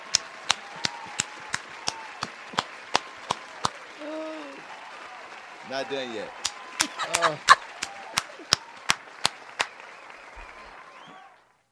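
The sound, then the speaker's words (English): Slow, steady clapping given as a round of applause for whoever released a video, sharp and evenly spaced, continuing for about ten seconds before stopping. A voice speaks briefly over the claps partway through. “You're going to get the full applause, too.”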